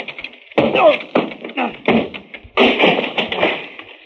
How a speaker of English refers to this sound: that door's locked. Stand back, Fern. Yeah. I'll have to break it down.